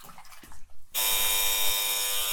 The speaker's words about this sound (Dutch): Oh, de bel gaat. Ik ga even open doen.